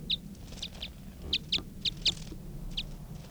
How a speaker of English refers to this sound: That was a wild bird.